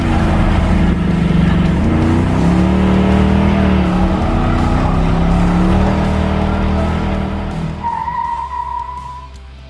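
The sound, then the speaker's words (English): A 1977 Pontiac Trans Am engine revs loud, its rumbling pitch climbing and dipping, then a brief high tire squeal near the end as the roar fades away. “It was the 1977 Pontiac Trans Am from Smokey and the Bandit”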